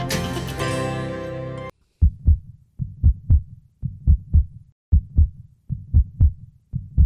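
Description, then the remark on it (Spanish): A short burst of music cuts off, then a steady heartbeat takes over: deep lub-dub thumps in pairs, repeating at an even, calm pace with no voices. “Este sonido que escuchan nos recuerda el latido de un corazón.”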